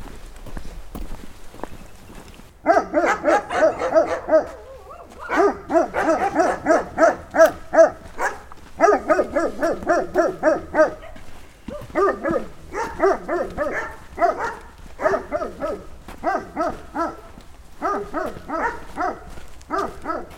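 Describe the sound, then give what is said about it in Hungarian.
A large dog barks loudly and rapidly in the Monor forests, in repeated bursts, starting after a short quiet moment and continuing almost without pause, with no one talking over it. “Ez a nagy kutya csaholás, ez már Monori erdőkön van.”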